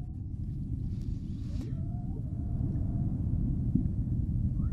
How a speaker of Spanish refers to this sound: Y me encantaría y me aprecia mucho terminar el programa hoy contigo pues escuchando un canto de ballenas. Bueno, a ver. Así suena una ballena.